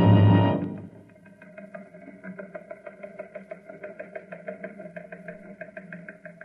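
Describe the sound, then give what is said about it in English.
A recon car's engine idles with a steady, rhythmic chugging and knocking pulse, moderately loud, after a brief louder burst at the start. “I'm on my way in a recon car.”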